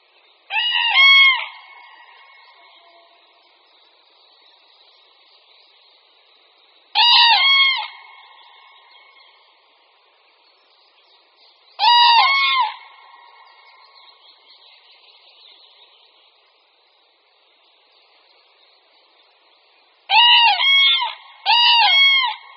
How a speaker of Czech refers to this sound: jeřáb popelavý.